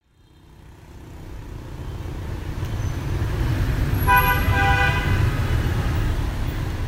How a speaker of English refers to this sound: This is Vietnam, where motorbikes race through the streets of the capital, Hanoi.